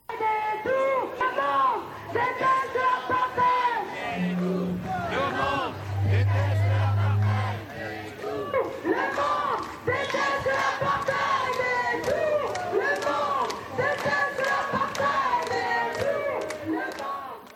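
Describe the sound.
A large crowd of protesters in London chants slogans denouncing the UK's role in the creation of the Israeli regime, in loud, rhythmic unison, voices rising and falling together in repeated phrases, with a low drum-like thudding briefly underneath around the middle.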